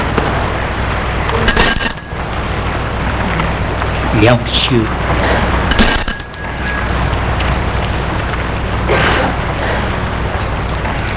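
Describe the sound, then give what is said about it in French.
A doorbell at the old wooden door with bars of the house of Radio Pastel rings twice, each a short, bright, ringing chime a few seconds apart, over a steady rain-like hiss, with a man speaking briefly between the rings. “Très intimidé, monte les marches et sonne à la porte.”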